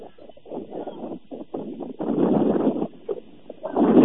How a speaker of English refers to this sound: The wind continues to pick up and gust here in Hiawatha. We'll do our best to try to block the wind as much as we can. There's not really a great spot to sit where we could block the wind.